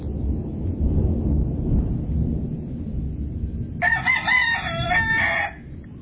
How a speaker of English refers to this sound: And here's our chickens talking to us.